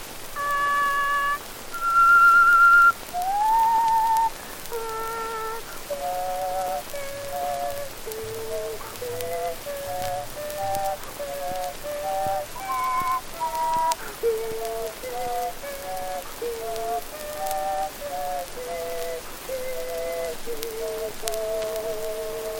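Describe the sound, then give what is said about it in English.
A person whistles a tune with three tones sounding at once, moving through long held and gliding notes at a steady, moderate loudness over a constant background hiss, with no talking. “You ever hear me do those three tones at once?”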